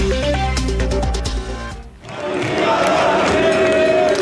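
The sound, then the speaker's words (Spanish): A short musical sting with stepping tones gives way, after a brief dip, to a loud, continuous roar of hundreds of young protesters in central Barcelona shouting and chanting for independence on a fourth night of demonstrations, setting up and burning barricades. “Cientos de jóvenes a gritos de independencia montaron barricadas y les prendieron fuego en el centro de la capital catalana y lanzaron cócteles Molotov contra la policía.”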